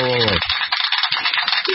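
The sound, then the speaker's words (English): A glass-breaking sound effect played on a radio show: a short tonal onset gives way to a loud, dense crash of jangling, tinkling shards that rattle on for just under two seconds. “It broke glass”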